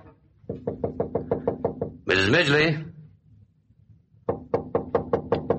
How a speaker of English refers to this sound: Lieutenant Debrayne goes to the bathroom door and knocks.